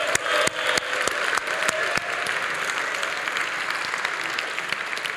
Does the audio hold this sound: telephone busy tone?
no